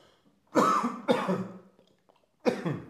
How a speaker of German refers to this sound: Entschuldigen Sie bitte, meine Stimme leicht belegt, ich muss kurz husten.